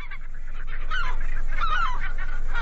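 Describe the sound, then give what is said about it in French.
A large gull (goéland) calls loudly, a run of harsh, nasal, honking cries repeating one after another with no talking. “En revanche, le goéland, c'est ça.”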